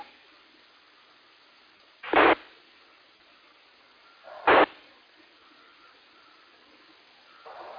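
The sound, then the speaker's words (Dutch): A steady, band-limited radio hiss with no voice or tone on it, broken twice by short, louder bursts of noise a couple of seconds apart. “Ik hoor wel iets, maar ik hoor geen modulatie.”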